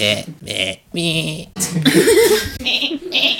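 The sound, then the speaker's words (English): A voice imitates a baby goat from a herd screaming: a run of loud, strained, wavering bleats with short gaps, building to a long shaky cry near the middle. “It's a whole herd of baby goats comes down the tunnel. You just get one that just screams.”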